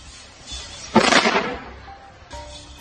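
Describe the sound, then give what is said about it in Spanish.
A single loud shot from a long-range sniper rifle, known as Lord of the Horizon, fired by Ukrainian troops at Russian soldiers almost 4 kilometres away, cracks out sharply, then trails off in a short rumbling echo over faint background noise, with a softer knock following moments later. “Segundos después del disparo, uno de los rusos acaba desplomándose al suelo.”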